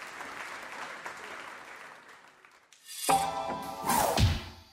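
Steady audience applause with a dense, crackling texture for a few seconds, called for by the host after introducing a tour guide, then it gives way to louder sweeping whooshes and a sharp thump.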